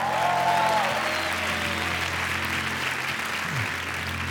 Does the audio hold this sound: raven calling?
no